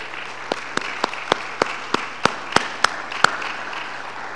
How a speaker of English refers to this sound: Let's give them a round of applause, okay?